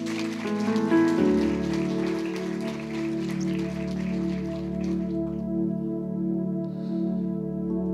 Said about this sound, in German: Danke vielmals. Herzlichen Applaus.